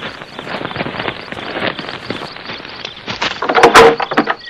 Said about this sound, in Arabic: نعم، افتح الباب له. نعم نعم نعم، نعم سأفتح الباب. نعم سأفتح.